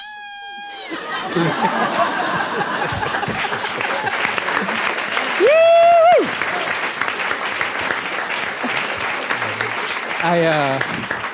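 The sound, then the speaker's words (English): A crowd bursts into sustained, dense applause that fills the whole stretch, with scattered whoops and cheers rising above the clapping, including a loud whistle-like shout midway and another near the end. “I realize I clapped with everyone else.”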